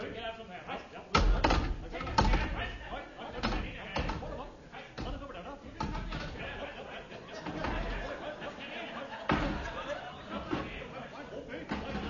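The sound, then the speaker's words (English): Chairs being stacked and balanced on top of one another to reach up to a high window: a series of irregular wooden knocks and clattering bumps, with murmuring voices and scattered laughter running underneath. “the sound you are hearing is that of Seagoon and Eccles balancing chairs one on top of the other”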